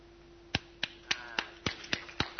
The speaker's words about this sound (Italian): Allora, un grandissimo applauso per tutti i bambini del Cile.